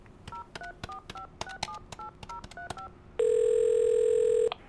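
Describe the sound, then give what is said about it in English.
A rapid series of about eight short two-toned telephone keypad beeps with button clicks as someone dials to get a man on the phone, followed by a loud, steady, high-pitched tone lasting over a second before it cuts off. No one speaks. “Get him on the phone now.”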